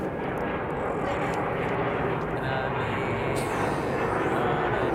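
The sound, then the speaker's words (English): An airplane drones slowly overhead, its loud, steady engine roar filling the entire stretch without fading, rumbling with a broad rushing hiss. “Slowest plane ever.”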